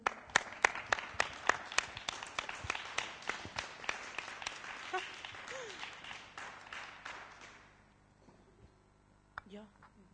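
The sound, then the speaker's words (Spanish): A burst of audience applause for a team of game-show contestants, many hands clapping steadily, strong at first and then tapering off to quiet after about eight seconds, with a brief sound near the end. “Bueno, fuerte aplauso para ellos.”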